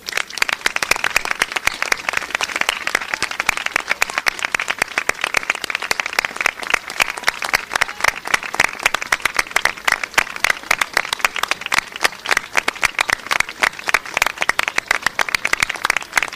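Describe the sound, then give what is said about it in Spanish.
Sustained applause from a large audience, dense overlapping claps forming a steady, loud wash of sound that continues without pause for the full length, with no voices standing out. “Y ahora pido un fuerte aplauso para todas las que hoy no están aquí.”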